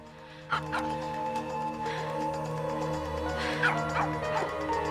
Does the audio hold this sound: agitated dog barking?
yes